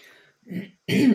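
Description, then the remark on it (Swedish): A person clears their throat and coughs in short bursts, a muffled one followed by a louder, rougher one, with no talking around them. “Sorry för lite hosta här”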